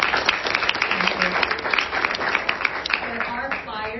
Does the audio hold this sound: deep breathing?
no